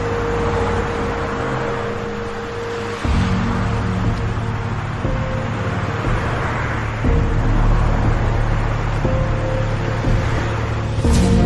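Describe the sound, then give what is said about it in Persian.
A car engine rumbles steadily, its low hum shifting in pitch and loudness a few times as the vehicle pulls up and stops on the other side of a road, with faint road noise around it. “یه ماشین اون طرف جاده میسته و مژگان به سمتش میره.”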